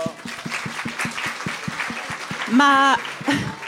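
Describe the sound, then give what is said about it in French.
An audience applauds with steady, rapid claps throughout, and a loud whooping cheer rises briefly near the end, followed by a shorter shout. “Une bonne main d'applaudissement.”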